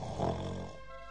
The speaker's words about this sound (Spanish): Tocinete y Laconcito se acostaron y enseguida se pusieron a roncar.